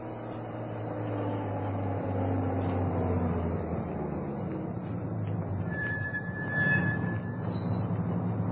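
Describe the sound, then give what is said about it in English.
A heavy police truck engine rumbles steadily, its low hum shifting as it rolls into the front courtyard of the Hernandez house at sunrise and idles, with a faint higher whine briefly rising near the end. “As the sun appeared on the horizon, a police truck entered the front courtyard of the Hernandez house.”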